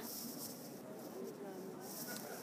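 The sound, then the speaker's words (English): Steady, hissing wash of water splashing from fountains in the garden of the Victoria and Albert Museum, continuous and fairly soft, with faint murmurs of people snacking outside in the background. “That's why you might hear the waterfalls from the water fountains and the people outside snacking.”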